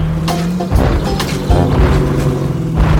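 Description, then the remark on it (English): Heavy, booming footsteps of an approaching elephant plod along in a slow, steady rhythm, each deep thud loud and resonant, with no voices alongside them. “Soon enough, he heard loud footsteps approaching.”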